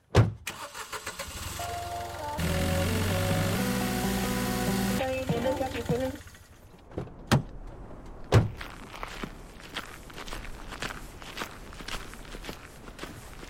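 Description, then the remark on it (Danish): A car engine starts with a short rumble and runs loudly for a few seconds, then falls quiet, followed by footsteps and a few sharp thunks like doors shutting, as people take a car down to Stevns Klint. “Jamen, så lad os lige hoppe ind i bilen og køre ned.”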